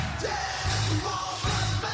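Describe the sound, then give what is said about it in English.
A large crowd chants in unison, loud rhythmic bursts of many voices shouting the same phrase twice over a continuous roar of noise. “They're all chanting it.”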